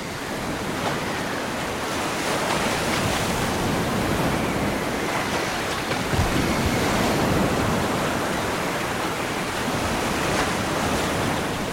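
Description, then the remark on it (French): Surf crashes steadily against large rocks forming a ring around a small lagoon, a loud, continuous roar of churning water with faint swells and breaks, with no voices. “L'écume des vagues se brise sur les gros blocs qui forment une couronne et forment un lagon petit mais suffisant.”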